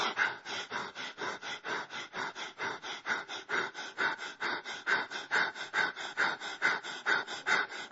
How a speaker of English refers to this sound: But now I'm going to switch. I'm going to switch from my breathing being controlled by my subconscious, and I'm going to control it from my conscious.